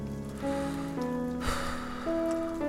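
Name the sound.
rain falling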